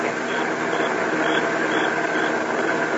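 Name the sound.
car engine approaching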